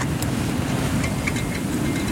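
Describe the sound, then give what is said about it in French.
An electricity pylon overhead vibrates in strong wind gusting to 80 km/h, a steady, loud low roar and rumble with faint higher whistling tones flickering through, continuous for the whole stretch with no voices. “C'est un pylône électrique au-dessus de nous qui vibre à cause du vent.”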